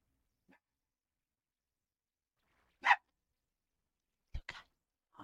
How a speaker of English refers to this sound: No barking.